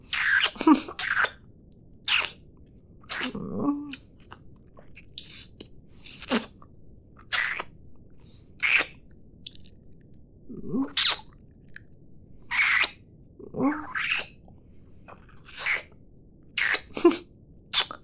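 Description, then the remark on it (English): A dog pants in quick, breathy huffs that come in short irregular bursts, some sharper and snortier than others, with no voices over them. “You're so cute when panting like this.”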